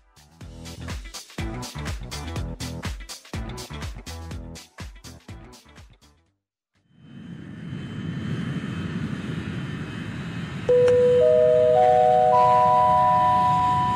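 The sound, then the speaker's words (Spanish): A burst of rhythmic, punchy thumps stops briefly, then a jet airplane engine roars up, its deep rumble joined by high, steady whining tones that step upward and grow louder. “Pasajeros con destino a las ondas hertzianas, favor de abordar por la puerta 104.3.”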